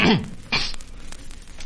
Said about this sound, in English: All right, show, wait till I clear my throat here